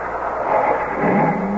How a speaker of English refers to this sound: The wheels, they just spin in this sand. It won't work.